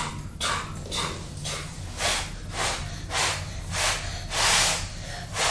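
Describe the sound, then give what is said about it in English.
A child blows on the tiny propeller of a Lego helicopter to make it spin, puffing out a rapid, steady run of breathy, hissing blows that sound like a chugging train, with about ten rhythmic puffs in a row and no talking. “You've got to throw yourself out puffing all that”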